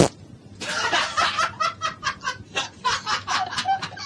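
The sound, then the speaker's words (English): A drawn-out, sputtering fart, a late entry in a farting competition, breaks into a rapid string of about a dozen raspy, clucking bursts, loud, lasting several seconds with no talking. “And here we are, still at the farting competition. A late entry”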